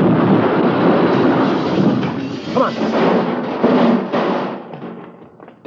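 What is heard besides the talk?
car crash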